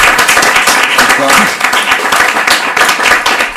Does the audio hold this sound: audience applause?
yes